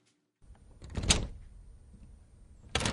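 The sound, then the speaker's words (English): Fairly loud knocking on the wooden door of a red brick house, Guru Ki Sharan Home, in Mohali near Chandigarh: a cluster of dull thumps, a pause filled with faint rattling, then another short burst of knocks at the end. No one speaks. “Amrik knocked on the door.”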